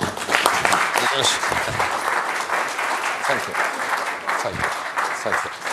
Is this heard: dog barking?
no